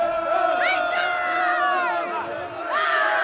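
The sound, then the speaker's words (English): A group of soldiers in training yells and shouts together in a loud, continuous chorus, with rising and falling pitches overlapping throughout, as the trainees crawl, jog and lunge in a circle after knife-fighting practice. “After the knife practice, instructors urge the students to crawl, jog, and lunge in a circle, yelling.”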